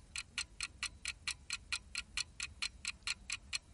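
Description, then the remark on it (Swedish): A grandmother's kitchen egg timer, left on the table and heard over a telephone, ticks steadily and quickly, about four crisp, bright clicks per second, with no voices over it. “Ja, en klocka va? Ja, sa Billan. Mormors äggklocka.”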